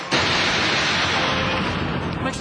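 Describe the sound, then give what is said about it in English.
A loud, sustained roll of thunder that breaks in suddenly and keeps rumbling steadily for a couple of seconds, its dense, noisy crackle filling the whole clip with no voices. “A little thunder in the background.”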